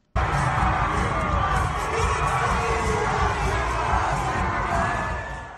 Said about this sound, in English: The screams, ululation, whistling and shouts of joy were deafening when the Springboks players entered the arrivals hall today with the trophy in hand.